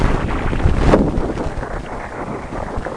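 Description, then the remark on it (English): Sonified collision of plasma streams near the sun, based on magnetic field measurements from NASA's Wind satellite: a fluttering, wind-like rush of noise broken by one abrupt, heavy thud near the start, then a steady rumbling flutter that carries on without any voices. “The crashing together of plasma streams near the sun sounds like a flutter, followed by an abrupt thud.”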